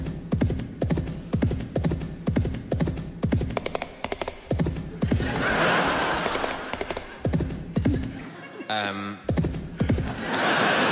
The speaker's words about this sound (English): Sorry. Sorry, that time it was the horse.